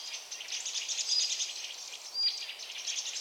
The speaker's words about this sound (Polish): Co tam się dzieje, co tam się dzieje? Konflikt kosa i drozda śpiewaka. Chyba, że jakiś drapieżnik się pojawił.